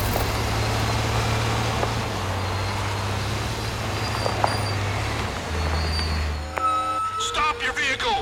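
A heavy truck, armoured with welded steel plates and running a smoke screen, drones loudly and steadily as it drives through a barricade. Its low rumble shifts pitch slightly, with a burst of sharp, tonal squealing near the end.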